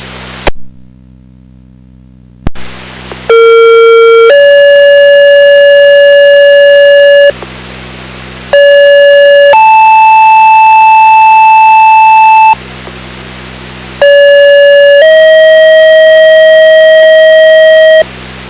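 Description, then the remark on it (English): Three rounds of two-tone ambulance pager activation tones from a Thursday night pager test sent off a radio tower: each a steady pitched tone stepping up to a second, longer tone, loud and clear over a faint radio hiss, with brief gaps between sequences. “This is a Thursday night pager test off the Arlington Tower. This is a pager test only.”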